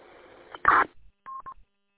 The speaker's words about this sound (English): If your radio had the decode in it, MDC decoder, you would actually see the radio ID and it would mute the burst of data, so you would not hear the burst of data, but you would see it on your display.